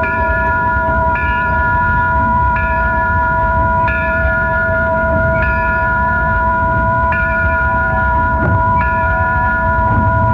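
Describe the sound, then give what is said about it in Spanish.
A tram rumbles steadily while its bell clangs over and over in a regular rhythm, about every second and a half, loud, with no voices. “El tranvía, no sé si ya lo conocen, conoció el tranvía.”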